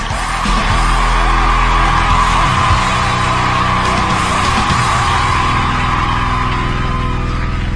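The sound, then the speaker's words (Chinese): An audience applauds and cheers to welcome a singer about to perform an original song, with yells and whoops rising over dense, steady clapping that stays loud and unbroken for about eight seconds. “嗯，好好好， 来， 好，咱们掌声， 有请，有请。”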